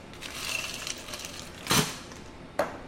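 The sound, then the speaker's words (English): Ice cubes clatter into a tiki glass while a cocktail is being made, in two sharp, rattling bursts, the first longer and louder, against a low steady background hiss, with no talking. “You're going to add ice to your tiki glass.”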